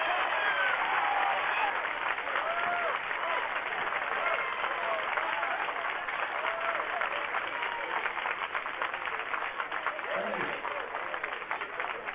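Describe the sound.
Steady, dense applause from a large San Francisco audience greeting comedian Richard Pryor, filling the whole stretch as a continuous roar of clapping with a few faint voices and whoops mixed in.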